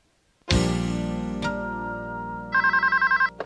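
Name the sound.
telephone ringing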